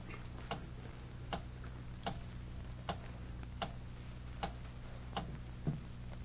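clock ticking

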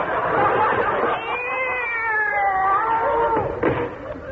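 cat meowing and caterwauling

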